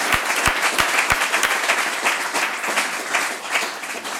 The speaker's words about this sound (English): But you guys, let's make a huge round of applause for this guy sharing his story.